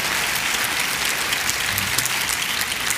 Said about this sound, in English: Give Jesus a praise and a hand clap. Glory to God.